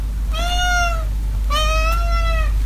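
Two drawn-out house cat meows, clear, each about three-quarters of a second long with a short pause between them, over a low steady background hum.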